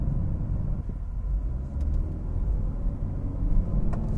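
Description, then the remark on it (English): A car engine pulls hard as the vehicle accelerates in third gear at about 3,500 RPM and 44 miles per hour, a steady, loud low rumble filling the cabin with a few faint clicks over it and no one speaking. “Oh, it's got good pull.”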